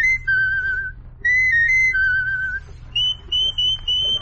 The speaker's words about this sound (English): Let me hear you whistle it, if you will.